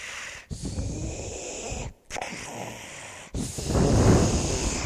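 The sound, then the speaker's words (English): A voice imitates the labored, raspy breathing of a very sick hospital patient with tubes and a machine: three long, wheezing breaths in a row, each separated by a brief pause, fairly loud, with the last breath the harshest. “You can hear them breathing.”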